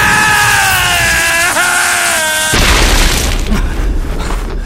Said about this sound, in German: Ich glaub's nicht, er ist explodiert!